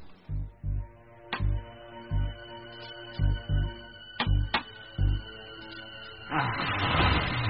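clock ticking

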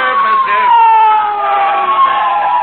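police motorcycle siren

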